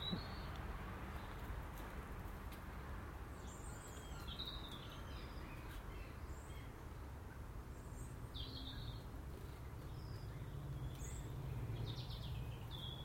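birds calling outdoors

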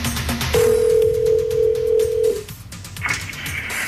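telephone dial tone

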